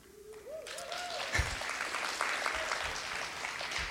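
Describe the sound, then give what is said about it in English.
Audience applause swells from a faint start into a steady, dense clatter of many hands clapping, with a rising whistle near the beginning and a few scattered cheers. “That's my story, and I think the applause suggests that this is what we do, right?”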